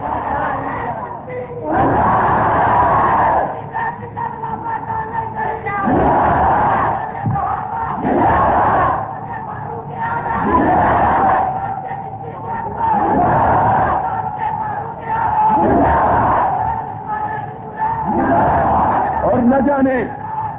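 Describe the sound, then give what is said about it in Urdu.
A large crowd chants long slogans during a speech, in loud, rhythmic bursts, each roaring shout rising and falling every couple of seconds, about eight times over a steady background murmur. “اور نہ جانے اس نے لمبے نعرے لگاؤ گے تو پھر آدھی تقریر تمہاری ہوگی آدھی میری ہوگی.”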